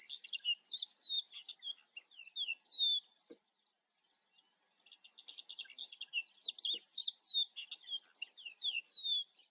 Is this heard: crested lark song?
yes